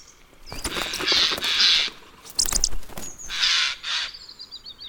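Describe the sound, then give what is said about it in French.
A jay gives a series of harsh, raspy screeches in quick bursts, loud, with a few thinner chirps trailing off near the end, as a falcon dodging branches with rapid wingbeats is about to catch it by surprise. “Un faucon, dans une manœuvre spectaculaire, esquive les branches tout en battant rapidement des ailes et est sur le point de prendre le jet au dépourvu.”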